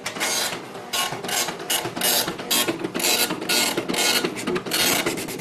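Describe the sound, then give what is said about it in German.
An Epson dot-matrix printer, supplied for the IBM Personal Computer 5150, chatters loudly, its print head rasping in quick bursts with brief pauses between lines, a steady mechanical rattle with no voices. “Den Drucker zum Beispiel steuert Epson bei.”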